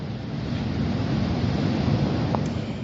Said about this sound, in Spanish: tamén temporal no mar. As autoridades insisten no chamamento á responsabilidade diante do aviso vermello por ondas.